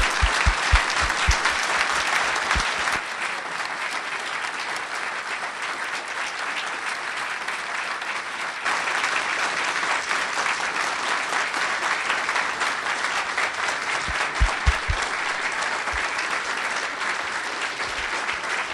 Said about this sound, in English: Would you all please share with me your applause and thanks for the Prime Minister's presentation?